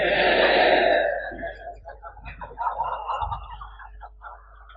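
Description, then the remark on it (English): Asked what sound a sheep makes, several voices mimic a sheep's baa together: one loud, drawn-out bleating cry at the start, followed by scattered, quieter overlapping bleats and murmuring from the group. “Because they chant ba ba like that, because they chant like that, we name the sheep Babaji.”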